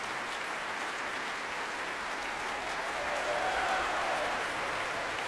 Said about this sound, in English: He's asking for some of the principals in the Halle to take their share of the applause now, especially from the winds.